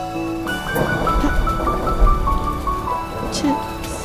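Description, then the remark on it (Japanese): Heavy rain pours down in a dense, steady hiss that swells in suddenly after a brief quiet moment and stays loud throughout, with faint sustained tones underneath. “けれど雨はやがて土砂降りに変わっていく。”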